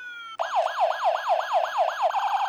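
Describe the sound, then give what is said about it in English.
A toy fire truck siren, on a toy adapted with a special on and off switch, gives thin electronic wails, about seven quick rising-and-falling sweeps that speed into a faster warble at the end, steady with no one talking. “And of course, our fire trucks.”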